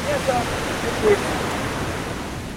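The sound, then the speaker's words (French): A steady, full wash of ocean surf at a surf spot rolls on without a break, waves breaking in a continuous roar with a faint hint of voices. “J'espère pour nous prendre toutes les vagues de la série.”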